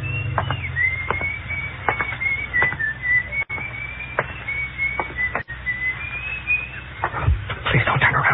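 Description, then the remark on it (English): A man whistles a steady, wavering tune almost without pause, over a low rumble with occasional clicks and knocks in the background. “My mouth was so dry, I wondered for a few seconds how that guy had been able to whistle, you know, the way you do.”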